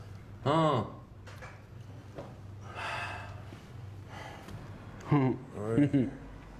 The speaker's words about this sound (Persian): چی شده؟ چیه؟ چرا پریشونی؟ نفس نفس میزنی؟ چیه؟